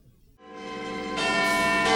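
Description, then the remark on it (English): Big Ben, the 13-ton biggest bell of the clock tower designed by Edmund Beckett, rings out, its deep, resonant tone rich with shimmering overtones, growing louder as fresh strikes land about a second apart, with no voices. “Well, actually, the biggest bell, which weighs 13 tons, is called Big Ben.”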